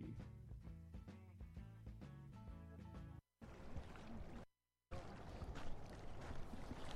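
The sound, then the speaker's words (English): Rain and moving water picked up by a hydrophone in the water, a dense, hissing, fizzy wash with a faintly glassy texture, in two bursts separated by brief silences, following a few seconds of tonal, rhythmic music. “It's got a hydrophone in the water, picking up the rain and the water moving. Sounds like kind of glass-ish.”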